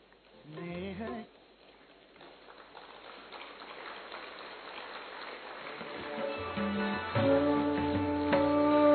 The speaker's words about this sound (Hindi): मेरा आपसे निवेदन है, एक बार जोरदार तालियों से आदरणीय भाई साहब का स्वागत करेंगे।